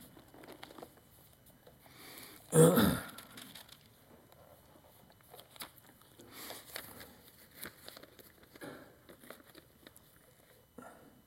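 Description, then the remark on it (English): Quiet paper handling as a person chases loose papers around during a reading of the book of Genesis: soft crinkling and shuffling scattered throughout, with one louder crumpling burst early on and a few brief rustles later. “Oh, just a minute, I'm going to chase this paper around here.”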